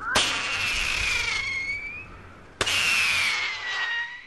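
Two small pyrotechnics are fired one after another to scatter roosting crows, each starting with a sharp pop and trailing into a long, bright, hissing fizz up into the air, whose whistling tone slowly drops in pitch.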